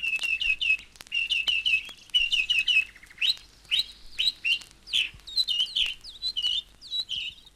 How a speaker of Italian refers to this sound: Erano tanti uccellini che, volando e cantando, facevano da staffetta instancabile tra gruppo e gruppo. C'erano tordi e scriccioli che zirlivano.